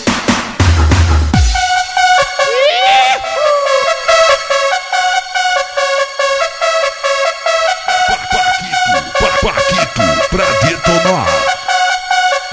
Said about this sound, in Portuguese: Olha as cornetas aí. Fala aí, corneta. Fala aí, fala aí.